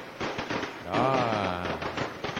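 A rapid, continuous string of firecrackers crackles and pops loudly throughout, set off to open the Bếp Sài Gòn show for the new year 2021, dense bursts overlapping into a festive barrage with a tonal hum rising midway.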